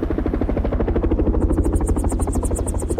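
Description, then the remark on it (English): Two helicopters circle and then land on snow-covered sea ice. A rotor chops loudly and steadily, a fast rhythmic thudding with engine whine, and a higher pulsing buzz joins midway. No one speaks. “Both helicopters circle for a minute and then land about 50 yards away from a tiny, motionless figure on the snow.”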